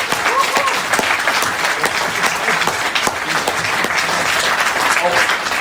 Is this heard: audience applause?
yes